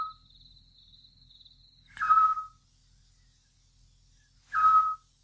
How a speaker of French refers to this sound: Le petit duc.